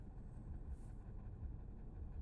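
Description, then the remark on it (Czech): A car engine revving on a road, heard as a low, muffled, steady rumble with slight swells but no sharp pitch climbs. It is fairly quiet, with no talking over it. “Tady turuje auto.”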